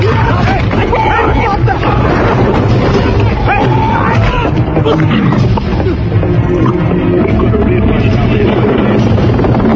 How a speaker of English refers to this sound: You don't run away from a chopper.